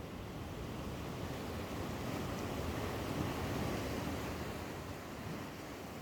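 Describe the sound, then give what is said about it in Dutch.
Steady roar of sea surf breaking on the beach at Playa de Ingles, La Gomera, a dense continuous rush of waves that swells slightly in the middle, heard alone with no voices. “En je hoort ook de zee bij Playa de Ingles, La Gomera.”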